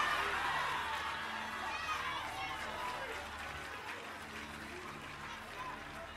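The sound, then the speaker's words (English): An audience claps steadily for several seconds, a dense, fairly loud patter of many hands mixed with overlapping crowd voices that ease off slightly toward the end. “Am I suspecting that the men are the ones clapping this clap?”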